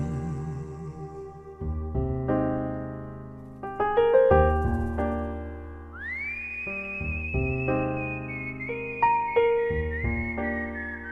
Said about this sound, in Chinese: 喜欢最后这段的口哨，平时吹口哨一般都是我们心情愉悦的时候，而这样的口哨让这样的一首有些悲伤的歌曲情绪往上了一点点。